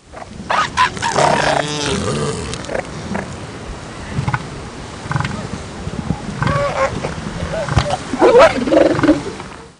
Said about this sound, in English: Once again, the first sounds you'll hear are a group of female elephant seals, and the second set will be bull elephant seals.